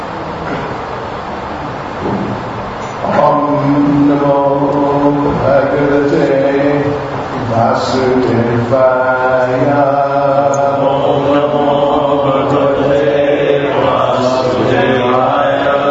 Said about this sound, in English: car number 279, the alarm keeps on going off. 279.